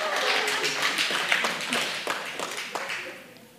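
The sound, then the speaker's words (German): The singles in an audience each clap once when asked, producing a brief, ragged spatter of single claps that overlap for a few seconds over a low murmur, then thin out to a few stray claps. “Wer von euch ist Single? Einmal klatschen.”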